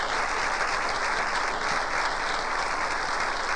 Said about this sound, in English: Look at them streaming down the aisle. Wonderful. Wonderful. Here comes some more. Let's clap. Let's clap for them.